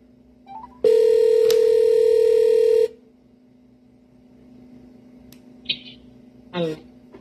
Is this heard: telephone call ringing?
yes